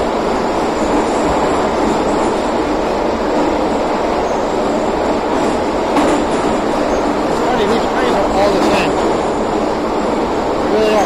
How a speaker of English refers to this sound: Same kind of cars. Yeah. In Kiev, in Minsk, in Moscow. I'm not sure about St. Petersburg, but no electronic signs or anything like that, just basic subway cars.